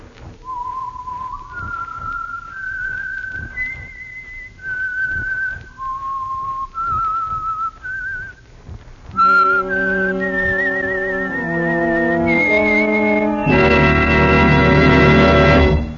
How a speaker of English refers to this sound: And for Sunday evening listening pleasure, the signal to listen for is this whistle that identifies the Signal Oil Program, The Whistler.